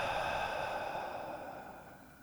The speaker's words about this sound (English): One, two, three. Inhale. Hold it there. Nice and easy. And exhale.